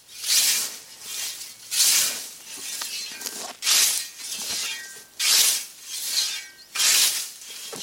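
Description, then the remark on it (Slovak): A scythe cutting grass with a steady run of about six rasping, hissing swishes, each stroke rising and fading at an even pace. No voices accompany it. “Travu z kosu sic.”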